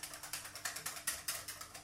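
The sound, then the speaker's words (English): A dishwasher running, making a steady, rapid series of hissing, clicking pulses, roughly seven or eight per second, with no voices. “Great listening, especially with a dishwasher going like that.”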